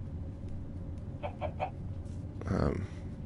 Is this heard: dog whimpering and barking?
no